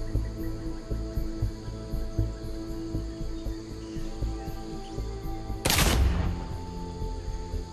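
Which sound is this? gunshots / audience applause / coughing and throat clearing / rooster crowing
gunshots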